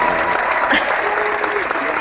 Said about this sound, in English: I'm going to have your applause. I was even expecting it. I was waiting for it.